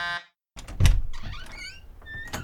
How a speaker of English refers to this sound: He went over to the inner door, and Marion buzzed him through.